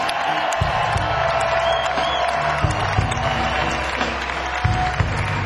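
An audience claps and cheers for the keyboard player in a steady, dense wash of applause with scattered whoops, while low sustained musical notes hum underneath throughout.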